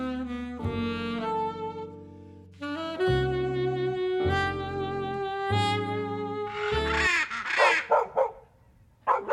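A small dog whines and yelps in long, high, drawn-out cries, then breaks into a few sharp, rapid barks near the end, fairly loud with no talking.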